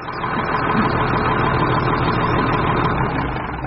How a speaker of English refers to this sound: Here we are, sir. One tractor with winch and cable. Isn't that what you ordered, sir?